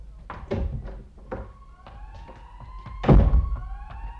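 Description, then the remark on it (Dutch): A police car siren wails in gliding, overlapping tones, punctuated by several heavy thuds and knocks, the loudest bang coming near the end. “Mensen, daar heb je zoiets als een politie.”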